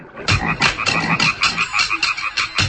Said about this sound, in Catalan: Si aneu a parar d'un llac i sentiu els cants de les granotes, potser teniu sort i sentiu també els ritmes del tam-tam màgic.